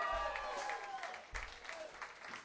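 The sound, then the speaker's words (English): An audience at a live music show at the King's Demise breaks into steady, dense applause for a performer that carries on for the whole stretch, with whoops and cheering voices rising above the clapping now and then. “Give him another nice round of applause.”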